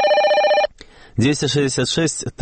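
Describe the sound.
A telephone answering line in Minsk rings once with a loud, steady electronic tone, then falls silent for a moment before a voice begins speaking.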